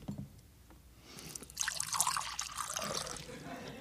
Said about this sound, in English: Surrounded by beautiful women, slathering on sunscreen, and then watching the water skiers, and listening to the sounds of rum being poured into their glasses.